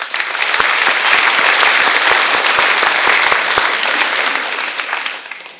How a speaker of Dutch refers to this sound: En ik hoop ook in de komende tijden jullie weer terug te zien in deze kerk. Graag een applaus.